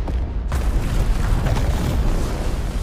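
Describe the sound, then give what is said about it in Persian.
A deep volcanic eruption booms in, followed by a continuous low roar and rumbling blasts that sustain loudly for several seconds, with no voices; volcanoes forming as continental plates move, building a land bridge explosively. “جایی دورتر یک پل متفاوت در حال شکل گیری بود، فقط به روشی انفجاری تر.”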